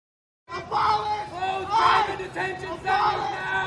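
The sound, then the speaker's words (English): A large crowd at a Joe Biden rally cheers and shouts together after a brief silence, as Biden answers protesters chanting to abolish ICE; a loud sustained roar of many voices that swells in three rising waves, almost like a rhythmic chant. “And everybody cheers.”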